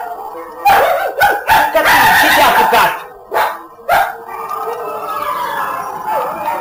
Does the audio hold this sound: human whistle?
no